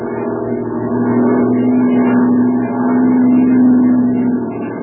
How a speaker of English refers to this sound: Plane's coming in for the jump now.